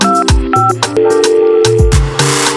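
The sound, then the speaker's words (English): A few short electronic keypad beeps of a borrowed phone dialing a number to call an uncle sound over a busy backdrop of deep thumping hits and sustained tones, with no one speaking. “Baba, I say, ma, come borrow your phone, I beg. I don't dey call my uncle since last week.”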